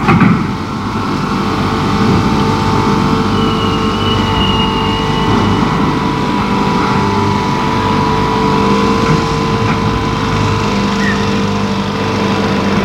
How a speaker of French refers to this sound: Pour ce qui est des corps, les camions les emmènent hors de la ville, en banlieue.